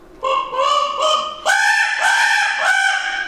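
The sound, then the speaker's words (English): A handheld goose call blown with a rolled tongue, producing a quick run of loud, trilling honks that rise in pitch midway, with no talking. “I use this random call, it's a goose call, and just roll your tongue.”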